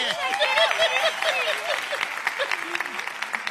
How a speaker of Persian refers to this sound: لطفاً تشویق شایسته.